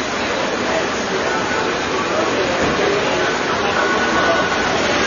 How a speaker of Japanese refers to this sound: 雨の音をちょっと聞いてます。どうぞ。 あ、すごい。ちょっとね、これ、じゃあ最後それで流しましょうか。雑踏がすごいですね。行きますよ。これが熱帯の雨の音です。